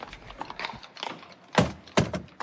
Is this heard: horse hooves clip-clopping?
yes